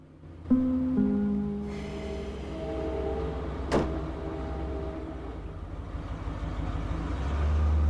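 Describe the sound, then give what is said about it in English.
A waiting car idles outside with a steady low rumble and a faint tonal hum, broken by a single sharp click or thud partway through. “Shane heads out to the waiting car.”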